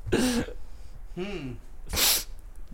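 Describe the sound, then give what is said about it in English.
Two sharp nasal sniffs, separated by a brief voiced murmur, as someone sniffles loudly into the microphone. “No, I was just sniffling.”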